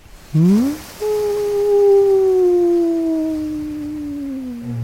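A whale's call: a brief rising whoop, then one long, loud, tonal moan that slowly slides downward for several seconds, with no voices present.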